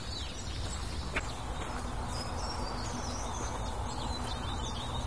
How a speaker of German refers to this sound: Die Meisen regen sich auf.